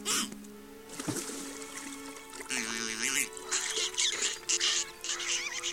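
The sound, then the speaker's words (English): An angry mother turtle duck quacks and squawks in harsh, repeated bursts, loud, over a steady background of splashing, trickling water. “Stupid turtle duck!”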